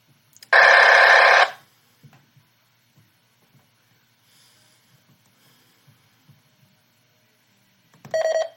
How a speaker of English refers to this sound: Alright, so now it's like searching. Because they got an error beep.